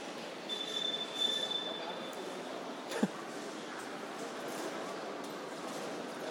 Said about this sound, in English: Presumably that's one of those little trolley things, is it?